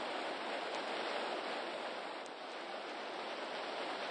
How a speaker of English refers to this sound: Listen, that roar. Is it a waterfall?